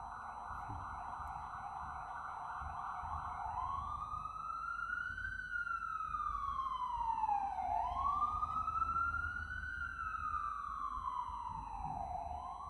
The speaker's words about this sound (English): Like considering who's in the back of that ambulance and what that's like for them.